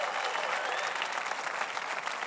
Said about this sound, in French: Alors, on lève nos mains, on lève nos cœurs, on l'applaudit, on le loue.